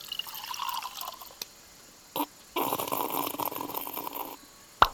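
Fizz pop lemonade with basil is poured into a glass in two splashy bursts, a short gurgle and then a steady few-second stream, ending with a small clink. It is fairly quiet, with no talking.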